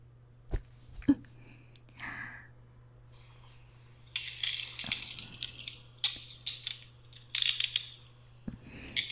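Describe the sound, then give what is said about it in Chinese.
A few scattered metallic clicks, then a run of quick, jangling ratchet bursts as handcuffs are clicked shut on someone during an interrogation, fairly loud over a faint steady hum. “把你给铐上了。”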